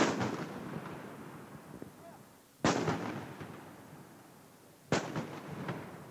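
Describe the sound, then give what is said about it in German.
Three loud ceremonial salute shots boom out a couple of seconds apart, each a sharp blast followed by a long rumbling echo that fades before the next shot, fired by Dresdner Bank outside its Frankfurt branch, opposite the European Central Bank, to welcome the euro. “Vor ihrer Frankfurter Niederlassung, die ganz passend gegenüber der Europäischen Zentralbank liegt, begrüßt die Dresdner Bank den Euro mit Böllerschüssen.”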